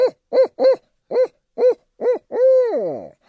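barred owl hooting call

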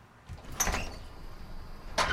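door being opened

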